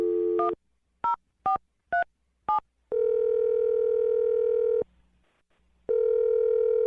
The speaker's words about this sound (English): I'm going to dial the phone number and try and get you a second date update right now.